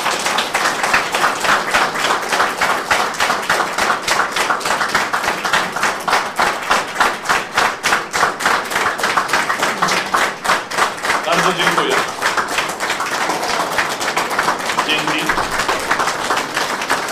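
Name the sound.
audience clapping and applause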